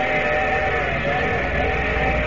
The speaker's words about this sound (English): Yeah, that sounds like the station whistle. We'll be pulling in a minute or so.